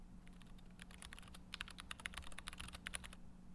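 Rapid, irregular clicking of keys on a computer keyboard, a steady stream of crisp taps with a faint low hum underneath and no voices.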